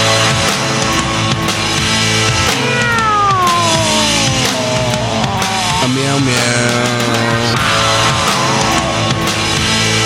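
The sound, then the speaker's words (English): A person mimics a cat with a few drawn-out, wavering meows that slide up and down in pitch, set against a steady, loud musical background throughout. “I gotta say, your meows are not as scary as Randy's.”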